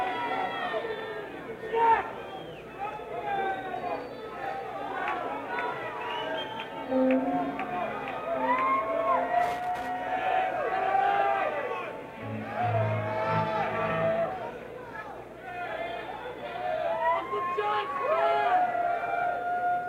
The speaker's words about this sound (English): Might be able to hear some of the shouts for requests at the encore. I mean, there's just so many different things that they could do.